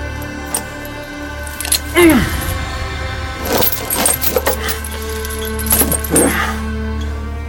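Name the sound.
keys jangling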